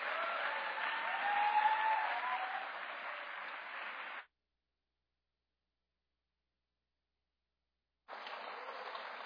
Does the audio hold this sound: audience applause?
yes